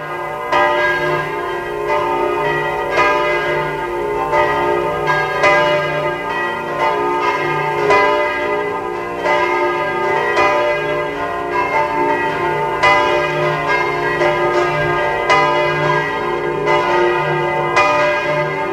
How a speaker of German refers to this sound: Es ist 12 Uhr. Sie hören die Glocken der Domkirche zu St. Martin in Eisenstadt.